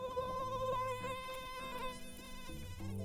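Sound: mosquito buzzing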